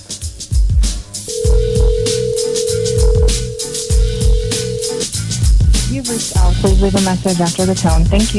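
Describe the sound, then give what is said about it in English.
A steady electronic phone ringing tone holds for a few seconds, sounding like an outgoing call waiting to connect, over loud rhythmic music that keeps playing throughout. “All right, let's dial the number.”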